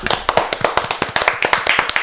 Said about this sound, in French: c'était Mélis avec nous, et on l'applaudit très fort.